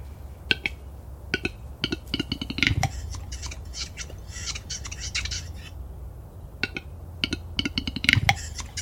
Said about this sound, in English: It's still one of my favourite recordings, the birds of capercaillie. It's a bird of the highlands of Scotland. The old Gaelic name is horse of the woods. It's a very large game bird.